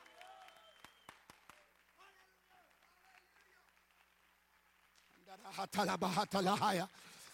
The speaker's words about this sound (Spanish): Dele un aplauso al Señor quien vive en este lugar. Él se quiere acercar.